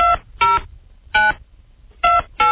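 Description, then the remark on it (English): Five loud touch-tone beeps of a phone number being dialed, each a short steady tone with uneven pauses between presses, heard alone without any talking. “Well, let's give it a call. See if we can get a hold of the guy.”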